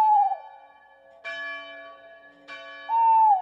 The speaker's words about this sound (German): Beim Ruf des Waldkauzes, den man hierzulande öfter hören kann, kriegen die Kinder fast ein bisschen Gänsehaut.